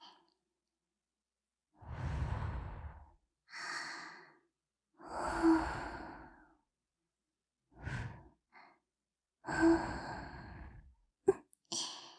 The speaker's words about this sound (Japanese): 息吹きかけられてじらされるの、嫌いじゃないですよね。